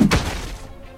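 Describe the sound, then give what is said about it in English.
A door in a game is punched and smashed as the player presses the Enter key: one heavy, crunching thud with a splintering burst that quickly fades into a low, rumbling tail. No voices. “I'm just going to hit enter to door. Punch it.”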